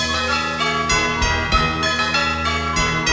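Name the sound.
bells ringing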